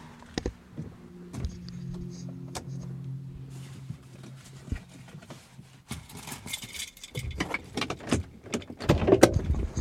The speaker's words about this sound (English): All right, enough chatter. I'm gonna get out of the car.